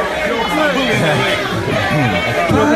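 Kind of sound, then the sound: crowd, crowd chanting a name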